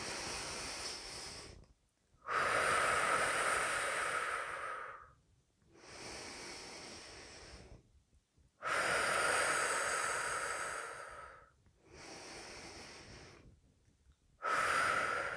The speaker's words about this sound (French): Nous venons poser notre main sur notre abdomen. Et même exercice à l'inspiration. Le ventre se gonfle et la main se soulève. À l'expiration, la main revient se poser, le ventre se dégonfle.